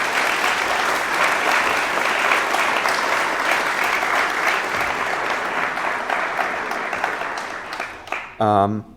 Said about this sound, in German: Und es hat, glaube ich, einen Applaus verdient.